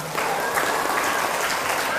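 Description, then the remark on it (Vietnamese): Steady audience applause fills the whole moment, a dense, even patter of many hands clapping with no pauses, given for an audience member's correct answer. “Bao tử của con gà, đúng rồi, cho chàng vỗ tay.”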